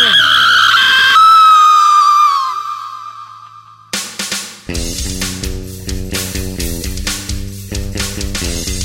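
A woman lets out a long, shrill scream that wavers and trails downward over a couple of seconds, then a loud, dramatic burst of music takes over.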